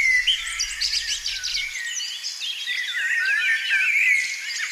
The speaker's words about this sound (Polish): Ptaki. Tutaj, z tego zagajnika za kapliczką. A, to za czasem lubię posłuchać.